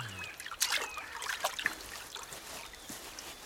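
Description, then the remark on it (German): Water trickles and dribbles in soft, irregular splashes as a person comes out of the water, with no voices. “Nun komm schon aus dem Wasser.”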